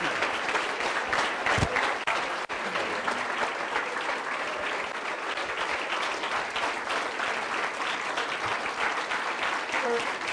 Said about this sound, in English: I'd like everyone to rise and join me in applauding our speaker, Dr. Robert Solow.